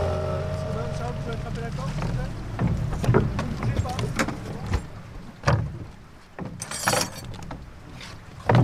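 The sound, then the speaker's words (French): Aboard a moored toue cabanée, a professional fishing boat on a river fitted at the front with a square lift net about 4 metres a side: scattered wooden knocks and clunks over a low, steady rumble, with people talking. “on est sur une toue un peu particulière ici.”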